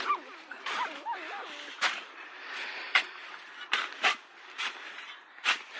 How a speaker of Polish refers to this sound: koleżanka krzyknęła, coś tutaj szczeka, tak? No i zeszliśmy się w to miejsce i faktycznie dziura w ziemi i słychać takie takie powarkiwania, poszczekiwania, no to ewidentnie szczeniaki.